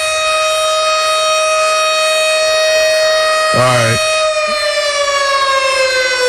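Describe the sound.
A loud, steady siren wails throughout, its tone holding level before sagging slightly near the end, while a person briefly speaks over it midway.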